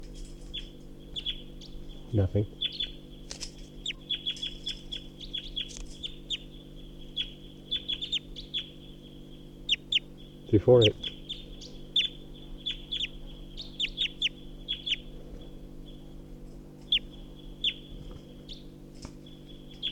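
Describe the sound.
A wild bird, up in a tall pine above a net, calls repeatedly with flight song and song phrases of short, high-pitched chirps and twittering throughout, over a steady low hum, while a voice briefly speaks a few words.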